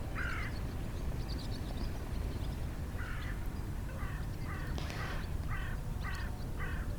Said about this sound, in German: Ja, ich hoffe, diese Folge hat dich heute inspiriert und du hast die Möwen im Hintergrund gehört und hast dich etwas getragen, gefühlt und motiviert und kannst sehen und fühlen, dass du auf dem richtigen Weg bist.